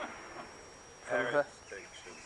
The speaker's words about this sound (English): Parrot.